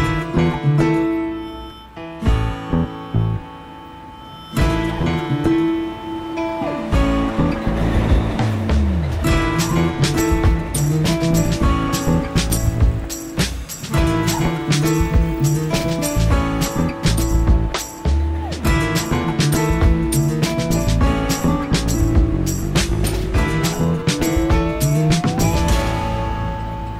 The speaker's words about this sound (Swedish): Tunnelbanan från Lenintorget till stationen som heter Traktorfabriken. Ja, det finns två tunnelbanelinjer i Minsk och en bär namn efter, jag skulle säga, intellektuella akademiker.